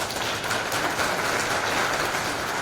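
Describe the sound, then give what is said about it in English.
An audience at FOSDEM applauds the organizers, a dense wash of many hands clapping at once that holds a fairly even loudness throughout, with no voices heard over it. “We couldn't be possible without the, you know, the community, so big round of applause for the organizers.”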